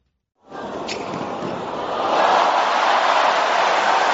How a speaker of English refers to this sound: The sound of a record-breaking crowd packed into Melbourne Park on Sunday. More than 100,000 fans turning up to cheer on tennis greats on day one of the 2026 Australian Open.